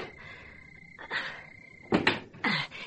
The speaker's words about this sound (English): Here, let me open the front door for you.